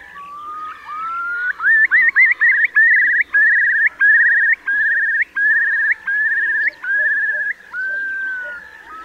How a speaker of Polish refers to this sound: Głos spokojnych ptaków, zwykle siedzących na ziemi, jest bardziej anemiczny, z długo powtarzaną pierwszą częścią.